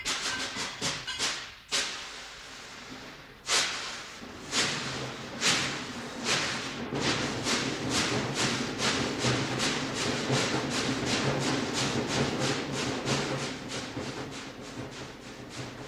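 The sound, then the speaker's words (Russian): A steam locomotive chuffs at night as it pulls a train toward Stalingrad across the steppe, throwing red sparks, its hissing exhaust bursts starting slow and heavy, then quickening into a steady, rapid rhythm over a continuous low mechanical rumble. “Паровоз, тяжело дыша, сыпал красными искрами в ночную степь.”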